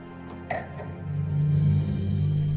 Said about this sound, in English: She places the teddy bear and her glass of wine down on the desk, then sits at the laptop.